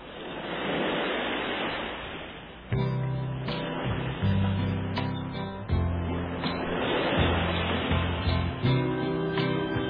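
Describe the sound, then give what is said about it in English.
Ocean surf washes in steadily for the first few seconds, a broad hissing roar, before music begins on a 1965 song recording and the waves continue faintly beneath the instruments. “Little ocean noise first.”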